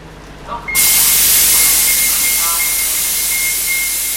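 A bus idles with a low rumble, then a loud, sudden burst of pneumatic air hiss starts and holds steadily as its door opens, with a faint high whine running through it.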